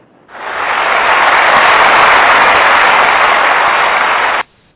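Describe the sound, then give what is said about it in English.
A burst of canned applause from an applause button on a show plays for about four seconds, a dense, steady wash of clapping that starts suddenly and cuts off abruptly, with no voices over it. “And I got an applause button here that I'm trying to hit.”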